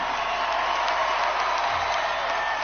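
A large audience at the VMAs claps and cheers for a singer's performance in a steady, dense roar that holds at an even loudness for the whole few seconds, with scattered shouts rising out of the wash of applause.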